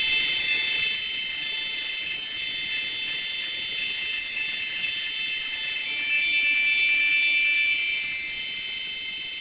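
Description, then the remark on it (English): About half a dozen phones each play a very long, simple electronic drone, holding steady together and layered into a bright, buzzing chord approximating Bach that sounds for the whole stretch with no talking. “Again, that's about a half a dozen phones, each of which is playing a very long, simple drone.”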